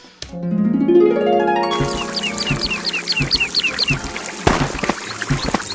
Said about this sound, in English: You fill your water storing tool.